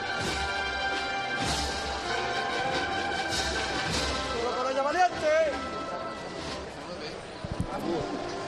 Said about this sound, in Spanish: Y ahora sí, abre el paso. Se escucha también el grito de los costaleros animándose entre ellos.